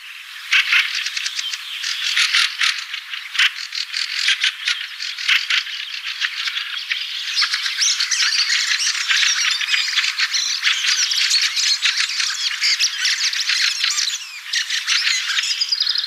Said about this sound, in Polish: To były właśnie typowe głosy kwiczoła.